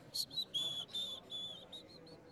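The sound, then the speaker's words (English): A man whistles a short, jaunty tune of about eight bright notes at varying pitches, some held and some clipped, fairly quiet and alone against a faint background hiss, as he saunters with his hands in his pockets out of a dining room door. “Then he put his hands in his pockets and sauntered, whistling, out the dining room door.”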